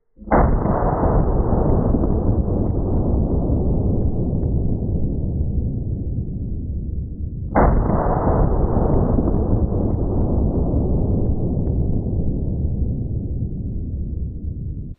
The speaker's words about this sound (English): Be the most devastating 50 BMG rounds I have ever seen. Let's look at this. Holy cow, that is a lot of damage.